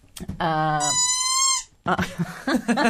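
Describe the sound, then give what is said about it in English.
A squeaky plastic hamburger toy, one of an assortment of squeaky toys that look like children's toys, lets out a long, loud, whiny squeal that jumps abruptly to a higher pitch before cutting off, followed by people talking. “Just an assortment of children's squeaky toys.”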